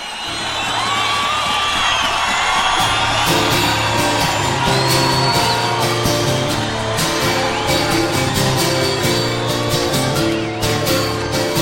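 A large crowd cheers and whoops in a loud, continuous roar, with scattered yells and shouts rising out of the dense wash of voices for the whole stretch.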